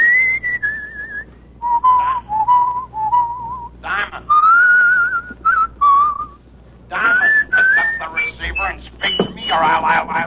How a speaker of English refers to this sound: The big idea is that it's a beautiful day and I'm happy. When I'm happy, I whistle.